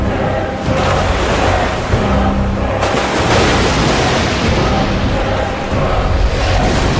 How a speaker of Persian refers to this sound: آسمون رعد و برق میزنه، آب دریا لبریز شده و سونامی شده.